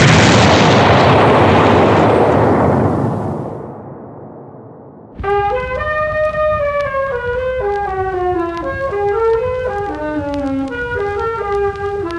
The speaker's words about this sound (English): For reasons of national security, the explosion at the Brumamond Works went largely unreported until sometime after the war. The relatives of those killed in Shed 19 on November the 24th, 1916, were told that their loved ones had died instantly